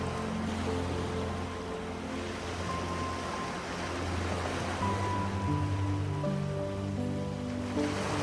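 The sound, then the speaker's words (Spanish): Ocean waves come and go on the soft sand of a tropical beach in a continuous, even hiss of surf, with soft sustained musical tones drifting underneath. “La arena suave se extiende por toda una playa tropical, juntándose con las olas del mar que van y vienen en la orilla.”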